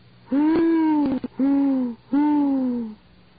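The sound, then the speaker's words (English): An owl hoots three times in a steady sequence in a dank, dripping wood at night, each long, resonant note sliding slightly downward. The calls are fairly loud, with nothing else around them. “Annie wasn't sure which one of them the owl had frightened the most.”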